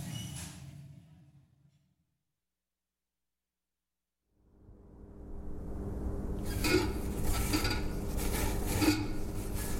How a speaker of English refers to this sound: Now, wash the dishes, grease the pans.